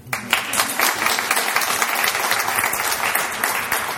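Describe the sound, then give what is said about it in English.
A crowd applauds steadily for several seconds to honour a parliamentary office intern, dense overlapping claps forming a continuous wash of sound that stays fairly loud throughout, with no one speaking over it. “Your applause”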